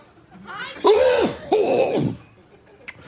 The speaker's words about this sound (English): And he hasn't quite figured out what to do with his microphone when he needs to cough.